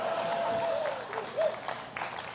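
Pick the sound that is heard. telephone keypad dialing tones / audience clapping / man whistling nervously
audience clapping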